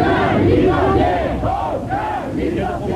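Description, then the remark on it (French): A crowd of dozens of LIP workers shouting and clapping around a car trying to get through them, a loud, continuous din of overlapping raised voices with rising and falling cries throughout, no single speaker standing out. “est donc reparti au volant de sa voiture en tentant de se frayer un passage au milieu de dizaines de LIP, criant et tapant dans les mains.”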